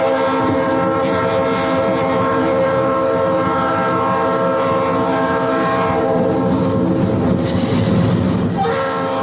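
A train rumbles steadily along the rails while its horn sounds a long, loud, sustained blast that carries through the whole stretch, dominant with no talking.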